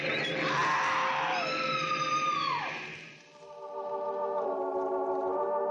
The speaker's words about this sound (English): A woman screams.